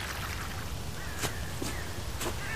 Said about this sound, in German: Ah, hier ist Natur pur. Hört selbst. Zwitschernde Vögel. Ein rauschendes Bächlein.